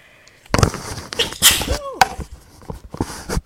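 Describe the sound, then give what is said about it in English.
A sudden, loud sneeze bursts out, followed by rustling, shuffling sounds and a few softer breathy noises as someone moves a microphone out of the way. “Ooh, I'm gonna sneeze.”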